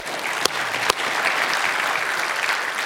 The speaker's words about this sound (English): Amen? We can clap about that.